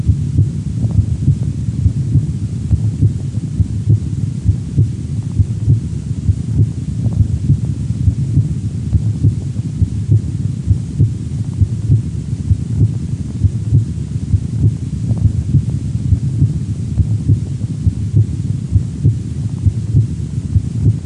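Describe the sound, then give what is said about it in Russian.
Stethoscope heart sounds at the aortic auscultation point, the second intercostal space to the right of the sternum, where the second heart sound is louder than the first: a steady, regular run of low, muffled lub-dub thumps over a constant soft rumble and hiss, with no voices. “Во второй точке аускультации, во втором межреберье справа от грудины, наоборот, второй тон оказывается громче первого.”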